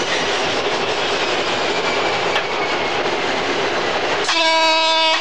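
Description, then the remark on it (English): A train coasting with power shut off as it passes the junction of the Greenford line rolls steadily along the rails with a continuous, even rumble and hiss and no engine surge, until a loud, sustained buzzing warning tone cuts in near the end, a buzzer that must be cancelled or the brakes apply on their own. “And I see now that we do have, in fact, have a double yellow just about half a mile ahead of me now as I pass the junction of the Greenford line. Shut off power now.”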